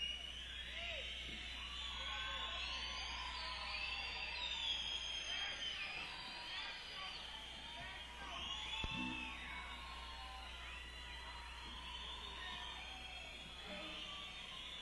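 Many people whistle at once, a dense, wavering mass of high overlapping tones that slide up and down continuously at a steady loudness for the whole stretch, with no talking.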